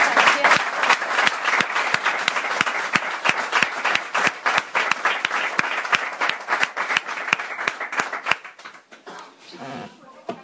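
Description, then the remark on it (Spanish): An audience at a book signing breaks into sustained applause for the author, dense clapping from many hands at a steady level for about eight seconds before thinning out and fading away at the end. “Así que yo creo que se merece un fuerte aplauso.”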